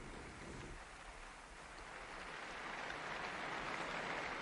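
A large crowd in a square applauds steadily for a newly beatified man, thousands of claps merging into a dense, hissing wash of sound that swells slightly toward the end, with no voices standing out.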